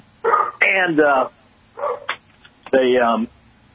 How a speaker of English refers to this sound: Sorry about the the animals barking.